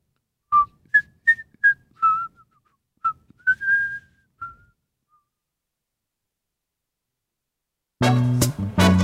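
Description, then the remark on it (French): A man whistles a light waltz tune solo as he walks off with his hands behind his back, a string of short bright notes in a lilting rhythm that trails off, followed by silence before full music abruptly begins. “puis il met les mains dans son dos et repart en sifflotant un air de valse.”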